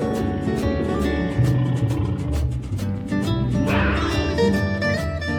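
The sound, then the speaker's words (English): A tiger growls and roars, a deep, rumbling sound that stays loud for several seconds with rough, rolling bursts and no talking. “Such a scary growl. It's a big cat with stripes down his back.”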